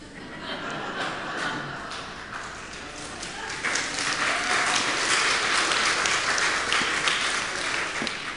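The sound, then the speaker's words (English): A crowd applauds steadily, many hands clapping at once in a dense, continuous patter that swells louder about halfway through and holds for several seconds. “Get a clap for that?”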